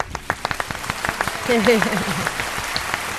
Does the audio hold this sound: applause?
yes